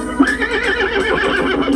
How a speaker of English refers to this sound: A horse, of course. A horse's feet are called hooves. And the beautiful hair on the back of their neck is called a mane.